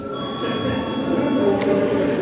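A bell in the Saeima, Latvia's parliament, rings to signal a break, a steady, loud metallic ringing with a sustained high tone and no pauses for a couple of seconds.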